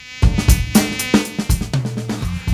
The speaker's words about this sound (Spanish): Escuche el zumbido, no, escuche el zumbido. Es... No debe haber zumbido más molesto. Ay, que sí, el mosquito. Estaba por decirlo. Es increíble.